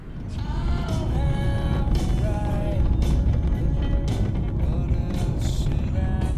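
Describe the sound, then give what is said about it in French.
A steady, loud low rumble of a car moving, heard from inside the cabin during a hitchhiked ride from Feltin back to Gensiou, with recurring squeaks, creaks and rattles over it and no one talking. “Madame la voiture, est-ce que vous avez quelque chose à dire?”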